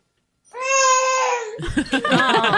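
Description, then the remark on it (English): A played recording of a baby girl crying: one long, steady, high-pitched wail, then choppy, babbling cries that rise and fall. The crying is loud and stands alone, with no other voices. “Your baby needs you. She's clearly saying mama.”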